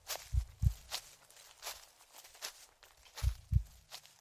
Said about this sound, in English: It was around 2 o'clock. I began hearing footsteps.